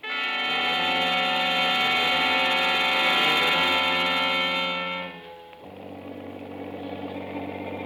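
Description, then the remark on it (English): A motorboat engine runs loud outside a breakwater after dark, tailing another boat, with a steady, droning hum for about five seconds, then drops to a lower, rougher rumble that continues to the end. “Once outside the breakwater, we spot Schuster's boat on the horizon.”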